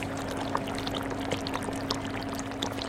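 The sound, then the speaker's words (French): Thick sugar syrup bubbling steadily as it thickens, a dense stream of small soft pops and blips over a continuous low hiss and hum, with no voices. “Vous entendez les bulles, elles épaississent. On entend petit à petit. Elles sont plus sourdes, plus rondes.”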